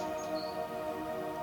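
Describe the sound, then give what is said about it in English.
A couple of brief, high chirps of birds singing along a path toward a forest and mountains sound faintly over a steady, sustained musical drone, with no voices present. “You can hear birds singing.”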